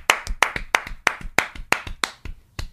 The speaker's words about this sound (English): Let us be the first to offer this round of applause for anybody who's gotten laid. A round of applause is both of us clapping, dude. 1, 2, 3.